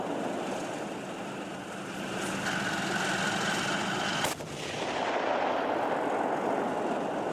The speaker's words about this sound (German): Er ist um die 1500 PS stark, mehr als 60 Tonnen Gewicht auf zwei dicken Ketten, am Turm eine große Kanone. Der Kampfpanzer Leopard 2, hier beim scharfen Schuss auf dem Übungsplatz Bergen-Hohne.